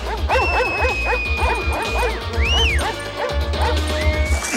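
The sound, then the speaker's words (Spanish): Several Doberman dogs bark loudly in a rapid, overlapping flurry of barks and yips as they run toward a whistle, with a thin, high-pitched tone sounding steadily over them. “Los perros corren en dirección al sonido,”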